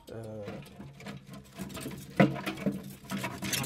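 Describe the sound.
A metal canister holding canes of cell-line tubes being raised from a liquid nitrogen refrigerator after its insulating plug is pulled out, with uneven rattling and scraping and one sharper clank partway through, plus a brief low hum of a voice at the start.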